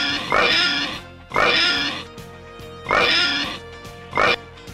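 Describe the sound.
A pig oinks four times in a steady rhythm, each call loud and squealing, with short pauses between them and no one talking.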